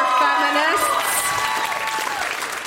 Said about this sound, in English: Wow, you guys, by the way, that was the worst round of applause. Like, come on.